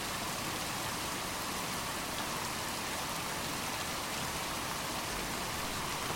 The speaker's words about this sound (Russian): звук дождя. Не дай бог кому оказаться на улице в такую погоду.